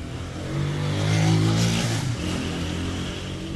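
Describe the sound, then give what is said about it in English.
A motorcycle engine revs and swells as it passes on a narrow residential street, peaking briefly before settling into a steady drone with a broad, rough hiss. The rider wears camouflage pants and a black shirt. No one speaks. “I don't know if that was a soldier or not on that motorcycle.”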